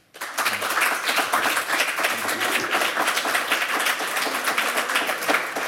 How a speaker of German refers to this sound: Einen großen Applaus